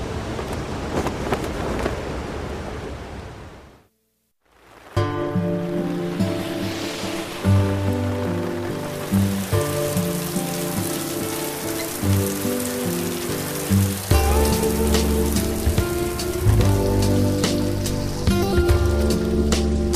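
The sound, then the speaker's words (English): Heavy rain pours down during a flood watch in a dense, steady hiss, loud, broken by a brief silent gap early on before resuming with low tonal droning beneath it. “We should be building boats today, not bikes. Boats. I know. Boats. Flood watch.”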